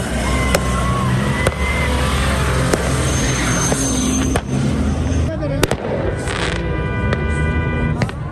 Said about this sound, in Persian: با غروب آفتاب، زمانی که شب فضا را در این صحرای ریگی تاریک میسازد، تجمع تماشاچیان که همه مردان هستند به جشن آتش بازی و آتش افروزی مبدل می شود.